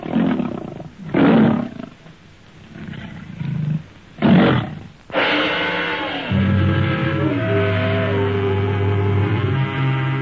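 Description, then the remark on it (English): A saber-toothed tiger roars loudly in a lighted chamber at the end of a tunnel, in Tarzan and the Diamond of Asher: a few harsh, snarling bursts, then one long, rumbling roar that holds to the end. No one speaks. “It is a saber-toothed tiger!”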